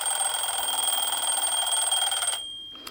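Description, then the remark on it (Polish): A mechanical alarm clock bell rings at daybreak from the parents' room, loudly in a rapid, continuous metallic rattle with a shrill, high pitch, then cuts off abruptly, followed by a faint click. “Z pokoju rodziców dochodził dźwięk dzwonka.”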